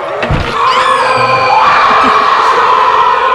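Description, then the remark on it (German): Bert Klock's screaming alarm clock in Die drei Fragezeichen shrieks nonstop, a loud, shrill wall of layered wailing tones whose pitch sweeps upward at first and then holds steady, with no one talking. “Bert Klock hatte einen schreienden Wecker.”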